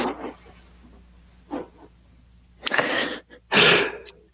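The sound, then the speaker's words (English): A stretch of near-silence, then two sharp, breathy sneeze bursts, the second louder, a sneeze partly cut off by a mute button. No one speaks. “The mute button sneeze is what you just, the gap in time there.”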